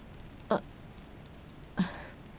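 A steady, soft hiss of sudden rain falls continuously, with two brief, sharper drips or splashes standing out about a second apart. No one speaks.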